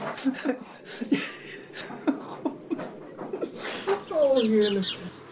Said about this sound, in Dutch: Oh, de vogels.